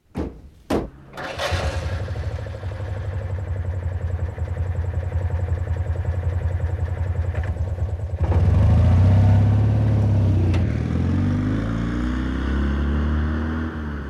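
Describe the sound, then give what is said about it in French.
A Citroën 2CV engine cranks with a couple of sharp clicks, catches and idles with a steady buzzing chug, then grows louder around the midpoint as it revs with a rising, wavering pitch. “C'est une deux chevaux.”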